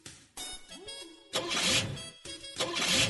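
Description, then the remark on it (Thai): A car engine cranks and turns over, then catches and settles into a loud, rough idle with rising and falling revs, as the car is started after fuel was brought for it. “อีชัยยอดชัยยอดรถติดแล้ว”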